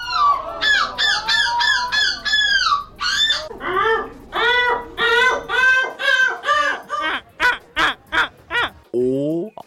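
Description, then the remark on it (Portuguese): A person at a European seagull-imitation championship loudly imitates seagull calls, a rapid series of harsh, wavering squawks and yelps repeated one after another, with no other talk. “Isto na verdade são pessoas num campeonato europeu para imitar gaivotas.”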